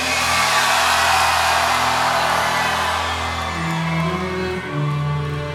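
A large concert crowd at Paradiso screams and roars at full volume without letup, a dense wall of cheering voices with a low droning tone underneath.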